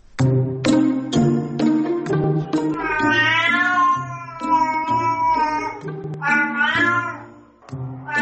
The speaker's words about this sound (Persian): حالا دو دانشمند آمریکایی می گویند راهی برای ترجمه میومیوهای گربه پیدا کردند.